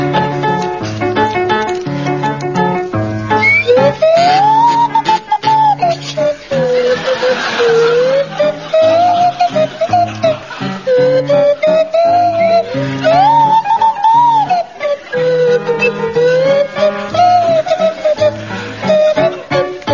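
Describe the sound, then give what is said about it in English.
Graham Garden's swanee whistle slides up and down through a jaunty melody while Barry Cryer's buzzing kazoo joins in, backed by a steady bouncing accompaniment, loud and continuous for the whole stretch. “And it's to feature Barry Cryer on kazoo and Graham Garden on Swanee Whistle.”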